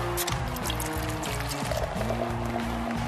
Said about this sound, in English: Have you ever noticed that when they open the beer and pour it, you hear the fizz? You don't hear fizz when you pour beer. Like with a soda, you hear the fizz. But why do you hear fizz when they pour the beer? That doesn't make any sense to me.